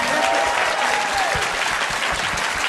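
Loud, steady audience applause fills the whole stretch, a dense wash of clapping hands with a brief cheer or whoop rising near the start.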